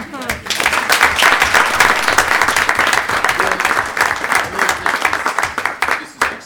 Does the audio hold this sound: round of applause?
yes